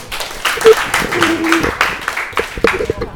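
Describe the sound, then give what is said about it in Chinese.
A room full of people claps steadily in a dense, continuous burst of applause, with a few voices calling out faintly over the clapping, welcoming the first group of class 201 students presenting their class song composition. “现在我们掌声欢迎第一组。”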